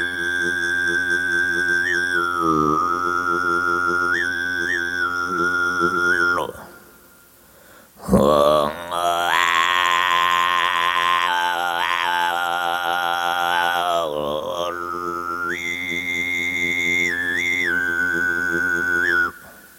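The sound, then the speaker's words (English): A voice imitates the chilindik's song with a loud, buzzing sustained drone and bright whistle-like overtones that trill and jump in pitch, broken by one short pause midway. “one of the members of the group, did record the imitation of this sound.”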